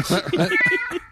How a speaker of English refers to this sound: I don't like the way my cat sounds. And when you don't like the way a singer sounds, you auto-tune them. Oh, God. Okay, here we go. Auto-tune cat.